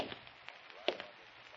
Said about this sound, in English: I waited. Then I heard the steps.